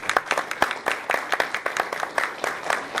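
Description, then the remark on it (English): A crowd gives a round of applause for students honored for their contest work, with dense, overlapping claps forming a steady crackle of sharp bursts, moderately loud and sustained with no voices standing out. “So a round of applause.”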